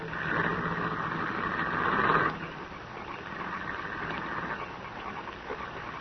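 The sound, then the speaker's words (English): A car engine rumbles steadily, then fades as the car drives away in the rain, leaving a continuous hiss of background noise. No one speaks. “When the car had gone, he released me.”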